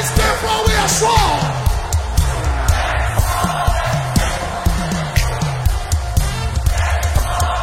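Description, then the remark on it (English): An audience shouts loudly and continuously to God in worship, a dense crowd roar of yells and whoops that swells and surges with rhythmic low thumps underneath. “Shout it to him.”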